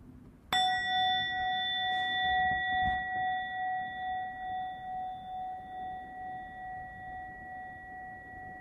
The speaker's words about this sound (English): So we'll begin the sit with the sound of the bell.